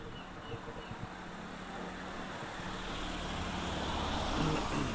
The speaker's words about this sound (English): Car. It's alright, it's okay. Thanks for telling me.